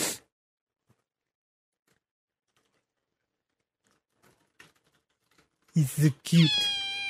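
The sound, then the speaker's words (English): A near-silent stretch with a few faint clicks, then a cat lets out a couple of short chirps followed by a loud, drawn-out meow at the very end. “the one cat here that just doesn't give a shit about the other cat.”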